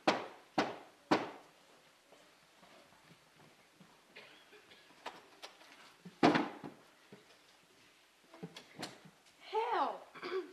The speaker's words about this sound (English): One day, as he sat down to a meager dinner of bread, a slab of cheese, and boiled mutton, there came a knock at the castle door.